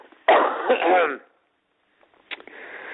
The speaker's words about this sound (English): Goddamn cough ruined that improv.